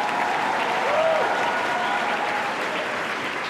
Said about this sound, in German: Der Applaus aus der Aula zeugt von einem glücklichen Ende der Schulzeit für die meisten.